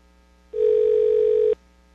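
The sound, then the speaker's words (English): A single steady electronic ringback tone sounds over a phone line on a call to a general manager, ringing elsewhere, for about one second, loud and clear against faint line hiss, with no voices. “It's ringing someplace else.”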